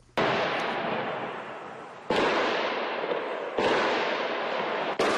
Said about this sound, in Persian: انفجارهای متعدد و گلوله‌باری در حومه شهر پاریس روز چهارشنبه در حال شنیده شد که پلیسان کشور شورشیان مزدون گروه دولت اسلامی را در حومه آن شهر به زن حملات مرگبار روز جمعه گذشته هدف قرار داد.